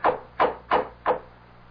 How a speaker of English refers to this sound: The door knocker. It's hideous. Gargoyle. Never mind that. Just knock.